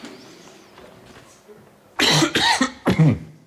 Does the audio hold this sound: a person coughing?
yes